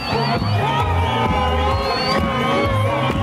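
A crowd in a village in Zimbabwe cheers and shouts steadily as opposition leader Nelson Chamisa arrives, voices overlapping in a sustained, dense roar of whoops and calls that never drops away.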